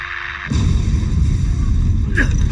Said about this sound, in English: Due to a massive nearby explosion, we are experiencing some degree of turbulence. Please do not worry.